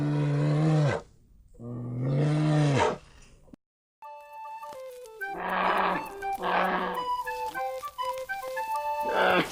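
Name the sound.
brown bear roaring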